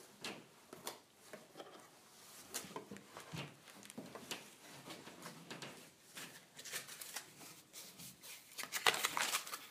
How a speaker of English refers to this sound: What's this? Ah, stuff's just falling out of this box here. This must be the cord, either the cord or a cable.